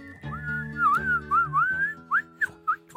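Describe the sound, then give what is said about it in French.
A person whistles, imitating a bird with warbling glides followed by several short rising chirps, all over a low, steady background drone. “Devinez quel oiseau j'imite ?”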